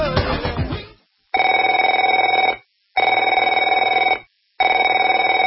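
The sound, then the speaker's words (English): A telephone rings three times, each loud, steady ring lasting over a second with brief silent gaps between, after a short burst of mixed sound at the start. “Afraid to answer it?”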